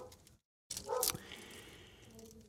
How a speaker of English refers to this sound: I've got a dog upstairs barking, so I've got to kind of watch this dog.